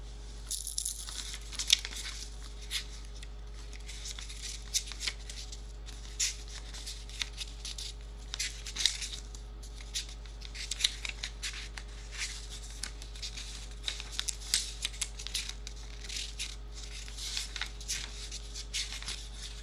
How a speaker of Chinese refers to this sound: 对了，我还不知道这个贱狗最喜欢什么东西呢，让我翻一翻他的漫画。